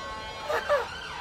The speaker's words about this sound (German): Also ich finde die Sirenen in England echt verdammt nervig. Ja, die Deutschen sind da wirklich in keinster Weise zu vergleichen.